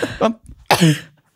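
A person coughs hard a few times in quick, wet, spluttering bursts after choking on a drink that went down the wrong way into the lungs, followed by a strained, raspy exhale.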